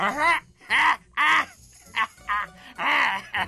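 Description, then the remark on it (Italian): A voice imitates the raucous squawking laughter of a large parrot up in a tree: six loud, harsh, cawing bursts in an uneven rhythm, with no other sound around them. “E in quel mentre sentì fischiarsi negli orecchi una gran risata. Voltandosi in su, vide sopra un albero un grosso pappagallo che si spollinava le poche penne che aveva addosso.”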